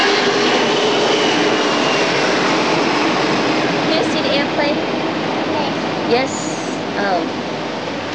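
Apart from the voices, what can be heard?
heavy rain pouring down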